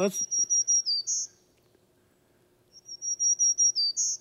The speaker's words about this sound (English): And one is the black-throated green warbler. You got that one up